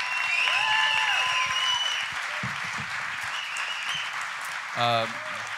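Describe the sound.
A crowd applauds loudly with steady clapping and whistles, easing slightly in volume midway, and a brief voice calls out near the end over the ongoing applause.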